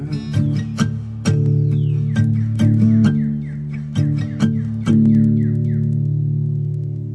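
A bird that has got indoors chirps repeatedly in quick, short downward notes, half-buried under loud music with strummed chords and deep sustained tones that dominate the mix.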